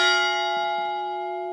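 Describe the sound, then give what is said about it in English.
A single large bell strike rings out clearly and sustains, its rich overtones slowly fading, with no voices present. The bell is part of an art installation called Memorial for a New American Century at the Scottsdale Museum of Contemporary Art. Each hour it rings once for each Iraqi civilian killed by violence that day. “Each hour, it rings once for each Iraqi civilian who's died that day because of violence.”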